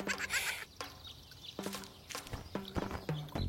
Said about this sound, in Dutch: Wat een leuke zwemband. Joki knijpt in de zwemband. Die maakt het geluid van een eend.